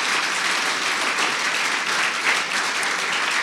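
A large audience claps together in a dense, steady round of applause in praise of the Lord during a morning worship service, loud and sustained throughout with no individual claps standing out and no talking over it.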